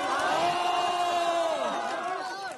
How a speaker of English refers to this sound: So based on what we were told and also a video recording of the event, what Li Keqiang told the crowd was, we support you, we support entrepreneurs. And he said that to a cheering crowd.